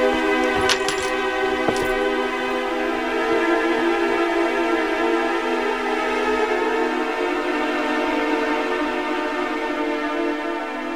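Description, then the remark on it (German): A short jingle of keys, the key to a hotel room being handed over, rattles in the first two seconds, a few bright metallic clinks, then fades while a steady, sustained tonal drone carries on underneath without any talking. “Bitte, hier ist der Schlüssel.”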